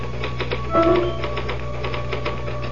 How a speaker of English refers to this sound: Can I use the typewriter for a moment? I just got to put one thought down before I forget it.